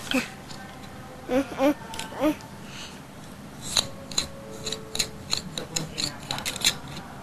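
Scissors are handled and snipped close by, a quick series of sharp metallic clicks and rasps over several seconds, following a few brief vocal sounds at the start.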